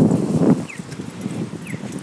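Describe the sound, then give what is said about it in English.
A pedestrian crossing signal for east-west traffic in Canada gives two short, high, downward-sliding chirps about a second apart, heard over a steady low rumble of traffic noise. “Okay, so that's the one for east and west. So that means cars and pedestrians can walk either east or west, or drive either east or west.”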